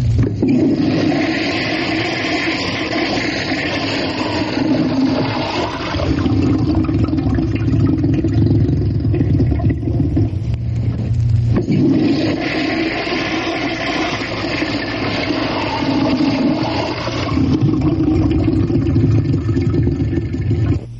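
A toilet flushes loudly and steadily, a continuous rushing and gurgling of water with a low rumble that briefly dips near the middle before surging again. No one speaks.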